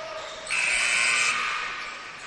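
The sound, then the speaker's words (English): A basketball substitution buzzer sounds as Born Leaders bring a fresh five back into the game against Boomslang. It is one steady, fairly high electronic tone for under a second, rising out of a constant roar of crowd noise that continues after it stops. “There is the buzzer you hear with the fresh five coming back for Born Leaders.”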